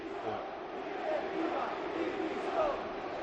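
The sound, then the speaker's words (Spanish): A large crowd of about 23,500 at the Tartiere stadium chants in unison after Oviedo's draw, a dense, steady roar of many voices with rhythmic rising shouts, calling for the club's board to resign. No individual speaker stands out. “Y gritos de directiva dimisión.”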